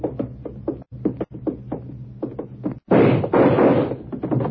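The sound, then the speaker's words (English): A door by the stage in a morgue is forced open: a run of repeated heavy thumps and knocks at a steady pace, then a loud, rough burst of cracking and scraping as it gives way. No one speaks. “I got the door open.”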